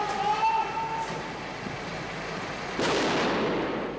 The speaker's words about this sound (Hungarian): A térfigyelő kamerák felvételein jól látszik, hogy egy védőruhába öltözött tűzszerész lassan lépkedve, egy hosszú bot végére rögzítve hozza ki a hátizsákot az épületből, majd a közeli metró építkezéshez viszi. Itt robbantották föl.